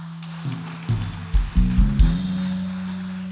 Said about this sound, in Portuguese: Quem está aqui? Dá um aplauso, fique de pé.